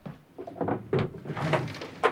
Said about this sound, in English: Serena's searching through drawers.